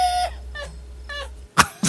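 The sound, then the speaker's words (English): A man screams in pain as if stabbed: a shrill held cry, then two short strangled yelps with an almost bird-like squawk. Two sharp, noisy bursts follow at the end. It is a clip from the film Dirty Harry, where the main antagonist is stabbed in the leg. “From where Dirty the main antagonist gets stabbed in the leg.”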